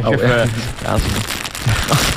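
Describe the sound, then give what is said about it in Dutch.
A bag of sweet popcorn rustles and crinkles in steady, crackly bursts as popcorn is taken for a quick taste on a radio show, while a voice talks over it at the start and again near the end. “Hebben we nog een popcornje? Lekker zo overmaken op de radio.”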